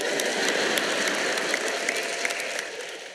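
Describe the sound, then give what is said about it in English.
A crowd applauds in a dense, steady wash of many overlapping claps, loud and bright throughout, easing off slightly at the very end. “Now you might as well clap loud because it's true.”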